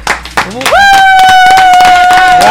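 A burst of loud clapping with irregular, rapid claps, joined after a moment by a sustained high-pitched whistle or cheering tone that rings over the applause.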